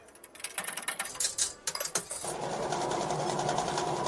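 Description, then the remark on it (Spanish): A coin-operated word machine on the Onda Madrid summer terrace whirs into action: a quick burst of metallic clicks and clinks settles into a steady mechanical whir that hums on evenly, with no voices. “Bienvenido, bienvenida a la máquina de palabras de nuestra terraza de verano. Por favor, inserte monedas y pulse Enter.”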